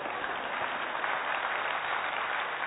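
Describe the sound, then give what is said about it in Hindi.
An audience claps steadily, a dense, continuous wash of many hands that stays at an even, fairly loud level throughout, with no voices standing out. “अच्छा अच्छा बजा रहे हैं, बीच बीच में बजा लेना चाहिए।”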